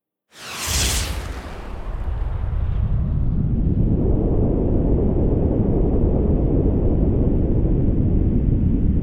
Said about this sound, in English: The effects of a nuclear weapon explosion, the immediate one, is heat and force of the explosion itself.